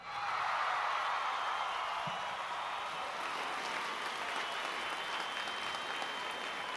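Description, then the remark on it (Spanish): An audience of a live program claps steadily for several seconds for the person at the technical controls, a dense, even wash of applause that starts abruptly and holds at a fairly constant level throughout, with no voices rising above it. “les voy a pedir un fuerte aplauso, como siempre.”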